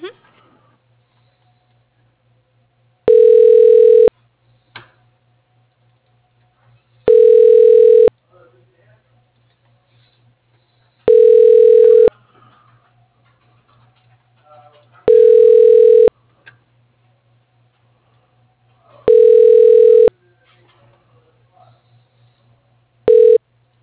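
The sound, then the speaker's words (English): A telephone line rings while a call is being transferred: loud, steady one-second tone bursts every four seconds, about six in all, over a faint low hum and near-silence between rings. “Yeah, sure. I'll transfer you. Just one okay, moment.”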